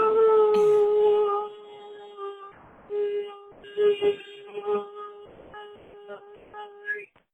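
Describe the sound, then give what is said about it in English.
A man imitates a small dog, starting with a long, loud whining howl, then breaking into a run of short, uneven yaps and yelps, fairly loud. “it sounded exactly like a small dog yapping.”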